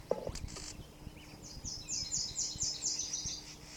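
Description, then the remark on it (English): A bird gives a scolding call: a rapid run of harsh, high-pitched chattering notes that rises and holds for about two seconds over a low, steady background rumble. “Scolding a bird, possibly near the nest.”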